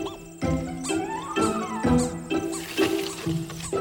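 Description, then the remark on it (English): Prairie dog barks, squeaks and chirps repeat in quick bursts about twice a second, high-pitched and harmonic, with some calls sweeping upward in pitch. No one speaks. “But could these barks, squeaks, and chirps really be a language?”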